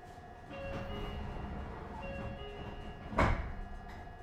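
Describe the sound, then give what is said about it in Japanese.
A steady rumble and hum inside a train car, then a brief, sharp whoosh and clunk as the sliding doors open, one door per car, fairly loud. “各車両1枚ずつドアが開きます。”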